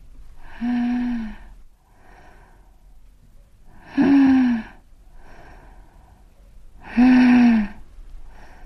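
A woman's sharp, shallow breathing: three loud, slightly wheezy gasps, evenly spaced a few seconds apart, with quiet in between and no talking.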